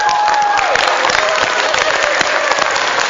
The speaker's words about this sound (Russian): Хлопайте все.